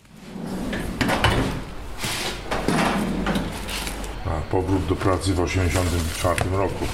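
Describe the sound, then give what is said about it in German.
A drawer of a photographer's metal archive cabinet, overflowing with folders of slides, slides open with a scraping rumble and rattle over the first few seconds, followed by a voice talking. “Die Schubladen in … Archivschrank quellen fast über vor Schnellheftern.”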